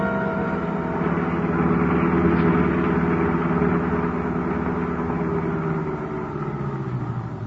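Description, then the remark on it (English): A car engine idles steadily outside a detention warehouse, kept running for a quick pickup at the gate, a continuous low rumbling hum with an even throb that stays fairly loud throughout, with no voices over it. “Keep the motor going, Ilse.”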